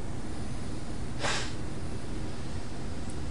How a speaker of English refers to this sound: with the triangle inverted, pointing down, we now reverse the direction of the breath. So, let's breathe out, two, three, and we're breathing in the right.